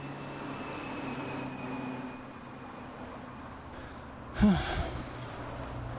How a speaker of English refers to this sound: Look, here comes the bus.